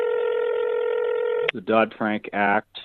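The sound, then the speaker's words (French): A steady electronic telephone tone hums for about a second and a half, clear, then cuts off abruptly as a man begins speaking. The call is to Dennis Lockhart, former president of the Federal Reserve in Atlanta, Georgia. “Nous le contactons par téléphone.”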